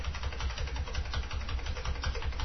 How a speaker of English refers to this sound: Here's some fan noise for us to deal with using noise reduction.